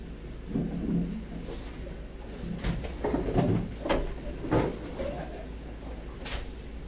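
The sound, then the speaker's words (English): A door to a lesson room creaks open and thuds shut as a latecomer enters, with a few scattered knocks and clunks, plus shuffling movement and low room noise in between, in an otherwise quiet space. “I'll emphasize again that had this building been designed that the doors into shiur rooms were in the back, I wouldn't mind so much that people come late.”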